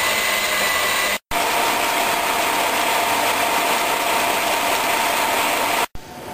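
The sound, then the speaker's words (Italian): An electric mixer whirs steadily and loudly as egg whites are whipped to stiff peaks with sugar added gradually, with a rough, buzzing motor tone that briefly cuts out twice, once early and once near the end. No one speaks. “I bianchi devono essere montati fermi, ma non troppo, non devono nemmeno rompersi, cosa che capiterebbe quando si vedono delle piccole gocce sparate sulla superficie interna della ciotola.”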